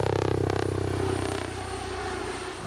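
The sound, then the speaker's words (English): A steady, smooth rotor whir with a faint rapid pulsing from the five-blade main rotor of a Comanche helicopter, which turns the usual chop into a more discreet whir, droning continuously and easing slightly in loudness over a few seconds. “And what that does is it cuts down the normal chop, chop, chop sound from a helicopter into a more discreet whir that kind of blends into the background.”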